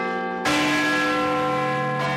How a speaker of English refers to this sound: you can't have New Year's Eve without the sound of Big Ben